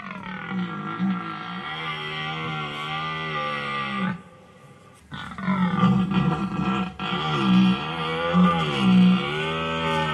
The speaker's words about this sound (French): Est-ce le feulement d'un chat, le vagissement d'un lièvre ou le brame d'un cerf ? Le brame d'un cerf. Eh oui, c'est presque de saison. Le brame du cerf.